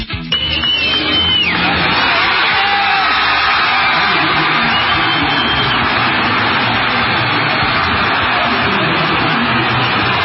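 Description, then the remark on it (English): A large crowd at the Palmetto Bowl claps and cheers for President Donald Trump without pause, a dense, loud wash of applause mixed with whoops and yells, with a brief shrill whistle near the start. “I would love to tell you folks that clapping is for me, but it's not.”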